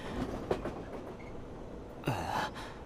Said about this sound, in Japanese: これぐらいの満員電車は経験してる？そういえば中学から電車通学していたって言ってたね。僕も高校大学と電車で登校してたけど、この乗車率は結構きつい方じゃないかな。